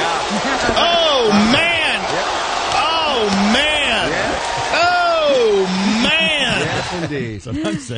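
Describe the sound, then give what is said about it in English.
A loud, sustained roar of a crowd cheering wildly, many overlapping voices whooping and shouting with rising and falling pitch, continuing steadily for the whole stretch before thinning slightly at the end. “Yeah, the crowd goes nuts.”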